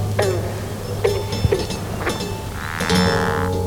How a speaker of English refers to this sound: What's that? That's a cricket frog. It doesn't sound like those green frogs we were listening to a minute ago. It has that real snoring.